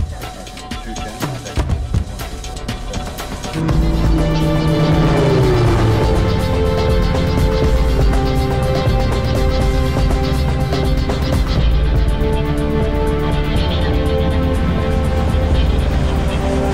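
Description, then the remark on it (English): A low airplane flyby, with the plane buzzing the sound recordist and recorded about 10 feet away: after a few quieter seconds, a loud engine roar bursts in, its tone sliding downward in pitch, then a heavy sustained rumble continues to the end. No talking. “Yeah, I was going to say that low flyby sounds amazing.”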